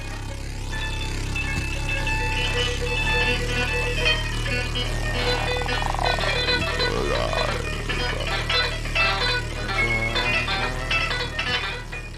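Harsh, dense noise music played by a band fills the whole stretch at a steady high level, layering droning tones with clattering sounds of things being knocked and broken, growing more percussive and jagged toward the end.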